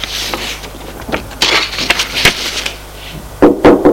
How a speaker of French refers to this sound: On frappe à la porte. Entrez, c'est la bonne.